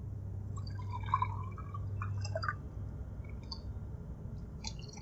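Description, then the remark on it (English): Water trickles and splashes into a glass over a low background hum, with small drips and clinks continuing after the pour; no one speaks. “Water? Thanks.”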